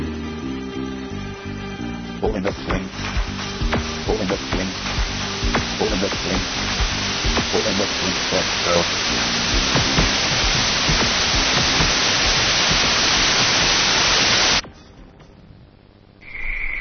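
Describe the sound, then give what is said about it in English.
Loud, steady radio static hiss with scattered crackles and faint tonal hum underneath, filling the air for about fifteen seconds before cutting off abruptly to near quiet. “In the beginning, there was nothing. Just an idea. Static, really.”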